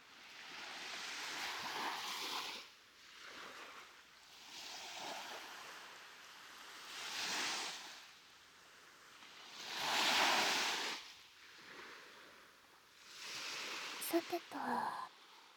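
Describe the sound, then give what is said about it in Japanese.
Ocean waves surge and recede in a steady rhythm, about five broad washes of hissing surf, one swelling louder than the rest, with a few brief sharper sounds near the end. “海の音はこれくらいにして、次はこういうのはどう？”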